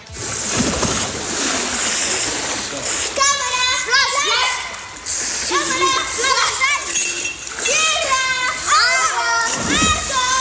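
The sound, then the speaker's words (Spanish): Children splash and play in a pool, their high, sing-song shouts rising over a constant wash of splashing water, like a game of Marco Polo with calls going back and forth. “este sonido de salpicaduras, los niños jugando, por ejemplo, a esto del Marco Polo, como estamos escuchando”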